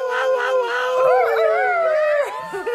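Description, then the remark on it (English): A person imitates a loud, sustained wolf howl in a passionate, sharp style, the voice gliding in long wavering tones with a few pitch swoops, bright, lasting nearly three seconds with no talking. “One style of howl is the passionate, loud and sharp and bright.”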